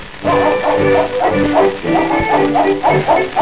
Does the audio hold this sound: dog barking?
yes